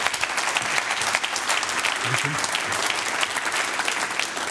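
Sustained audience applause welcoming a speaker, a dense crackle of many hands clapping at steady loudness for several seconds, with a faint voice briefly murmuring underneath.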